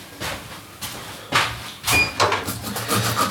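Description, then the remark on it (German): A new sharp knife chops a bell pepper into small cubes, about eight crisp, irregular strikes on a cutting board, with faint scraping between them and no voices. “In der Zeit jedenfalls können wir das neue scharfe Messer nehmen und die Paprika in kleine Würfel schneiden.”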